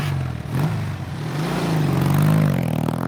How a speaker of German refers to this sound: Wenn er auf seiner brandneuen Norton Atlas, einem zweizylindrigen Motorrad, über weite Straßen glitt